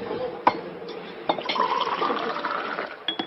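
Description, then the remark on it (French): Water is clumsily spilled aboard a boat: it splashes and pours out, a sharp clatter at the start, then a steady gushing, gurgling wash that continues with a few more knocks near the end. “Oh, je suis maladroit. Excusez-moi. Non, c'est rien, ce n'est que de l'eau.”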